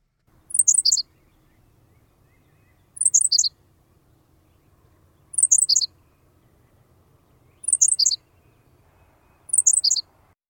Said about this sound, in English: And now we can hear the sparrow. It is Henslow's sparrow.